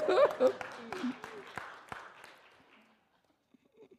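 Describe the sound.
A short burst of audience applause for the director general, brisk scattered claps that thin out and fade over about three seconds, with a voice calling out at the start and a few faint sounds afterward.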